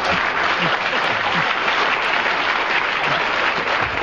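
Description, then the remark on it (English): Steady, loud applause from a crowd, a dense wash of many hands clapping continuously without a break, with no voices standing out above it. “I don't know whether the audience are applauding because they agree or just applauding your magnificent performance”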